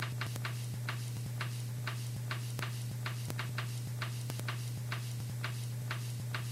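A wristwatch, many years old and still running well, ticks steadily in quick, even clicks, about three per second, crisp over a low, constant electrical hum. No one speaks.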